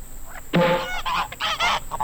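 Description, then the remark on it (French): Several loud wild goose honks in quick succession as wild geese are released, harsh and nasal, with overlapping calls forming an irregular burst of three or four squawks. “C'est pourquoi je vous propose aujourd'hui, en lieu et place du traditionnel quiz cinéma, un lâcher d'oie sauvage.”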